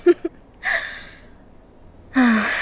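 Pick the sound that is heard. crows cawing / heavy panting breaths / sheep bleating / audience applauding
heavy panting breaths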